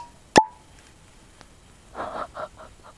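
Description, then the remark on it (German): A single sharp, loud cork pop from a whisky bottle opened outdoors at a lake, with a brief ringing tail that carried across the whole lake. A quieter stretch follows, then a short burst of cackling, bird-like calls. “Also der Korken sitzt auf jeden Fall gut fest.”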